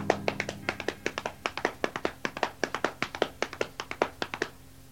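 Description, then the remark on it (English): Hands slap against legs in a quick, galloping rhythm to imitate horse hooves, a steady run of roughly two dozen sharp, bright pats with no talking. “Slapping your hands against your legs to make the sound of a horse.”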